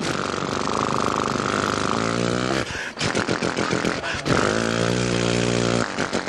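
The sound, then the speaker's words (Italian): An old 1960s Motom moped engine runs loud, its buzzing pitch rising and falling as it revs, with a brief sputtering dip partway through before it picks up again. “L'altro giorno ho fatto sparire un vecchio motorino anni 60, il Motom.”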